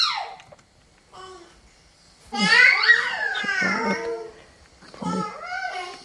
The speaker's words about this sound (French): Donc là, on a un bébé qui a 5 mois et qui est dans cette phase du développement vocal où il va triturer un peu le son, tester sa voix. Il est tout seul et ce qu'on entend, c'est cette grande variabilité du son sur le plan mélodique,